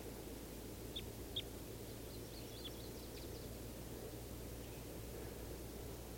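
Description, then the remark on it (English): A female wild bird at the top of a tree, one of at least three birds in the trees, gives two short, high calls in quick succession, then a scatter of faint chirps, all over a steady low rumble of background noise. “And I think this is the female at the top of the tree that's calling.”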